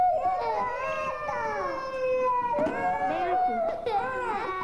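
A young child cries continuously in loud, wavering wails that rise and fall, with brief catches of breath and sobbing breaks between long drawn-out cries.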